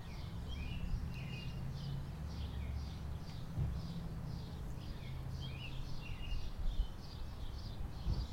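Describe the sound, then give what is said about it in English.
A robin sings a steady series of short, high warbling phrases repeating throughout, over a constant low background rumble. “I think this is a robin.”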